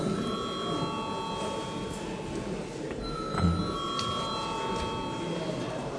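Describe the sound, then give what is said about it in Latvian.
A steady electric bell rings without pause for several seconds in the Latvian Saeima (parliament), its bright, high tone sustained and even, over a low murmur of background noise as a vote is called on a bill's first reading. “Lūdzu zvanu.”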